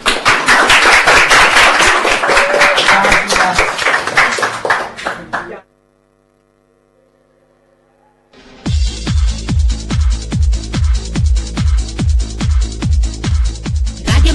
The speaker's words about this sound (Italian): gli facciamo un applauso.